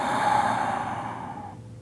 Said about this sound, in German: Beim ersten Ausatmen lässt du den Stress los. Ein kleines bisschen, du kannst ruhig laut ausatmen. Merkst schon, dass sich ein bisschen was löst